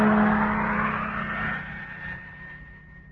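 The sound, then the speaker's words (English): A truck engine rumbles steadily with a low hum, then gradually fades as the vehicle drives off. No voices are heard. “Motor on. And here we go.”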